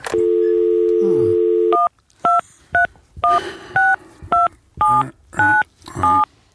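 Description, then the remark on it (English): A steady landline dial tone hums for nearly two seconds, then stops as a quick series of about nine touch-tone beeps are pressed, each a short dual-pitched chirp with brief pauses between. “give me that phone right there. Oh, this one, landline? Yeah, that one right there.”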